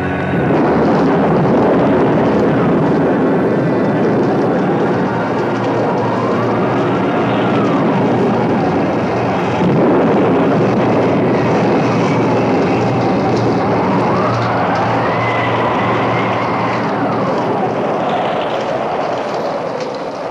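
A loud, unbroken storm roar over Vrindavan: driving rain hiss and deep rumbling thunder, with wind howls that rise and fall in pitch, no voices.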